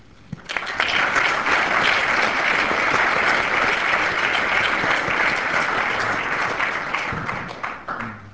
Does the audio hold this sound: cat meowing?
no